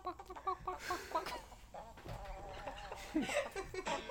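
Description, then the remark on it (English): A chicken clucks in a rapid series of short, choppy calls, fairly loud, with a busy, slightly noisy background throughout. “I love the chicken.”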